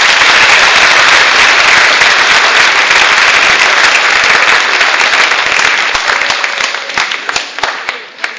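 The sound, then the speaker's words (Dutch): Loud, dense audience applause with many hands clapping at once, holding steady before thinning out into scattered individual claps at the end, given in thanks to the people who worked on a church service. “Zullen we nog even één keer even een applaus doen voor al die mensen?”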